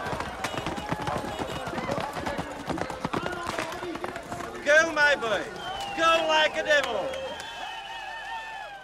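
A Pony Express horse and rider in a red Pony Express shirt gallop past in a quick, drumming run of hoofbeats, mixed with a noisy, surging crowd whose shouts and cheers swell louder toward the end.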